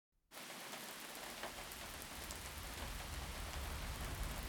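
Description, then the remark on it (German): A car drives at night through light drizzle on an otherwise empty motorway; the drizzle falls in a steady, even hiss that starts abruptly after a brief silence, with a low rumble running underneath throughout and no voices. “Ein Auto fährt nachts durch Nieselregen.”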